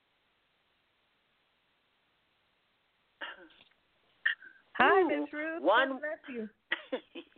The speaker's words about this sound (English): Bless you.